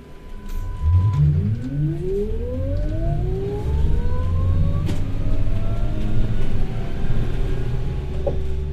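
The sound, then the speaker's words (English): A city bus engine in Wellington rumbles steadily on a rainy spring day, its motor whine climbing in pitch as the bus pulls away and picks up speed, with a constant low drone underneath. “It was a rainy spring day in Wellington, and armed with my snapper card, I get on the bus for my first stop to Newtown.”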